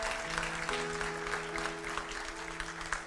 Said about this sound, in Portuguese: Glória a Deus. Palmas para Jesus.